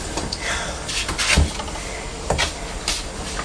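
Blue plastic children's pinking shears with a crimped edge cut through material in a few crisp, uneven snips, each a short crunchy click, set against a steady low hiss with no talking.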